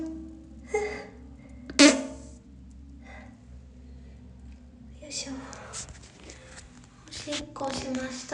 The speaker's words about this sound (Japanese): おならも出ちゃった。